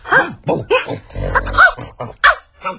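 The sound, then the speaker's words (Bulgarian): A dog barks in a quick, uneven string of about seven short, sharp yips, some with a whiny edge, loud and with no talking over them. “А пък кучето вървяло след нея и си куче похапвало от месото.”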